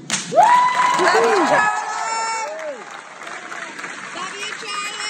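An audience cheers and shouts in a loud, dense roar, with people shouting out "I love you"; rising and falling yells and whoops stand out above steady applause-like noise.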